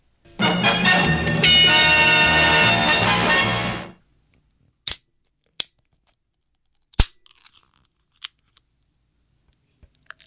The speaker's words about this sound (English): Allow me to switch to the beer mic so I can open this can of beautiful, beautiful liquid.